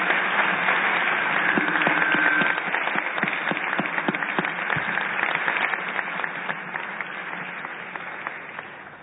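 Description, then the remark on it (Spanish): A crowd applauds loudly and steadily, a dense wash of many hands clapping with sharp individual claps standing out, gradually tapering off slightly toward the end, applauding the governor of Campeche, Mexico. “Yo les pido un aplauso muy fuerte para el señor gobernador.”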